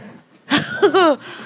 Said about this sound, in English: Well, hi everyone, we've got two dogs playing.